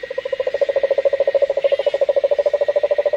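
A large, warty cane toad in Australia calls with a steady, rapid trill of even pulses, loud, continuing without a break and with no voices present.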